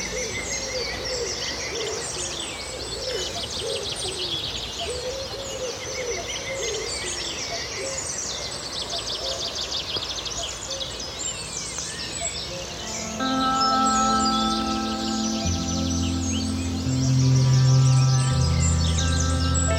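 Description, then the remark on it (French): A dense chorus of birds sings and chirps continuously in a marsh of tall yellow grasses along the Rance river, heard from a boat, with overlapping calls. Partway through, steady low droning tones rise beneath the birdsong and grow louder toward the end. “Immersion sonore au royaume des oiseaux.”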